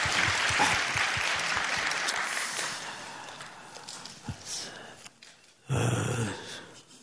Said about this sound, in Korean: 특별히 오늘 또그 사장님과 임원분들이 직접 우리와 함께 예배 드리고 싶고 젊은이들의 온기를 느끼고 싶어서 맨 앞줄에 와 계시는데 우리 한번 박수로 환영했으면 좋겠습니다.